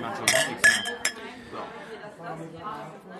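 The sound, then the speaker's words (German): Several sharp clinks of dishes and cutlery ring out early, followed by a steady murmur of background chatter in a busy Greek restaurant, with people talking at other tables. “Wir sind heute beim Griechen und das hier ist so ein bisschen die Aftershow-Geschichte.”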